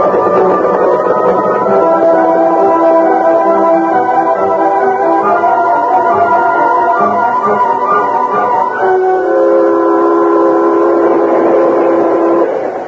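A train that has left Monument City runs steadily along the rails, loud, its continuous rumble overlaid with sustained whistling, droning tones that shift pitch partway through. No voices are heard.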